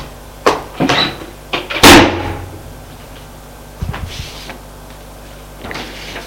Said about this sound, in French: Et il sort de la pièce en claquant la porte.